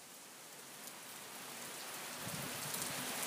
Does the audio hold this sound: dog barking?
no